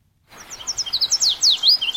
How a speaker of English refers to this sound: The researchers use speakers to simulate the sound of a male yellow warbler at 38 locations. This was the reply from the local population. The point was to observe how the local males responded to an intruder on their patch